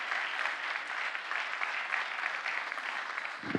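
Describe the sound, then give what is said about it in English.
Steady, sustained applause from an audience for the five people speaking that day, a dense wash of many hands clapping at a consistent level throughout, with no voices standing out above it. “Can we give one more round of applause for our five people who are speaking today?”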